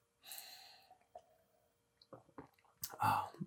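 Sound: sipping beer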